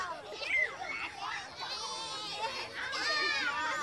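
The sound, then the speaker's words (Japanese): A lively mix of children's voices at play, with high excited shouts and chatter overlapping, continuous throughout like kids running around a park. “子供たち。”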